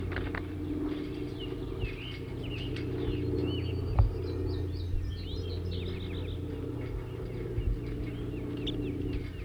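Birds 37 and 40, held together in a small cage on a stump at a net setup, give quick, high chittering notes in scattered bursts, with a denser run of rapid chips midway, all over a steady low mechanical hum. No one speaks.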